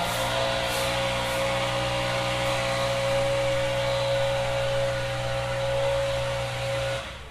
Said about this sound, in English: Why can't they put a muffler or something like that on these leaf blowers? That is the question of the day.